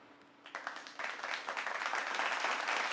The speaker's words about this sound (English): Yes, all this applause is for me. And I felt the need to do that.